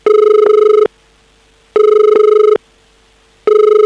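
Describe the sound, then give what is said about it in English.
A telephone call dialed with a phone card from Sydney to Los Angeles rings down the line, steady electronic tone bursts repeating in a regular on-off pattern, three rings with short silences between, loud and clear with no one speaking. “So dialing the number and...”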